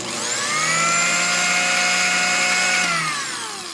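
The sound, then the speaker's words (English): A food processor motor speeding up from low to medium to high whirs with a loud, steady high-pitched whine and a buzzing hum underneath, then winds down near the end. No one speaks. “Now, does anyone care what their food processor sounds like when it speeds up from low to medium to high?”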